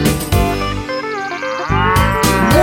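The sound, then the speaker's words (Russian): A drawn-out, low cow moo rises and falls over a bouncy musical backing, with sharp percussive hits punctuating the start and end. “Однажды жарким летом решили спеть дуэтом корова и баран, козе вручив баян.”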